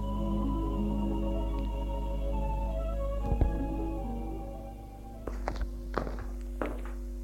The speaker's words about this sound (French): il va frapper à la porte de la chambre de sa femme.